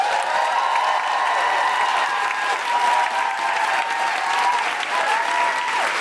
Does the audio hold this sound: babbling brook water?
no